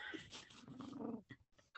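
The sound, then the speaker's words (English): An old cat, Chessie, breathing heavily and raspily: a long rough, slightly growly exhale followed by a couple of short, breathy puffs, with no one talking. “You can hear her heavy breathing.”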